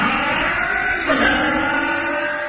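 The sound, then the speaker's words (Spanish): A car engine runs steadily and fairly loud, then revs up sharply around the middle as it accelerates before settling back into a sustained drone. No one speaks. “Para que tu auto arranque y ande y vaya y venga sin problemas.”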